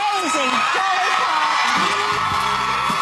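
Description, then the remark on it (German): A US television talk-show studio audience screams and cheers loudly and continuously for minutes at a country singer's appearance. A dense wall of shrieks and whoops with individual voices rising above the roar throughout. “Minutenlanger Kreischalarm im Studio, in dem es ansonsten recht gesittet zugeht.”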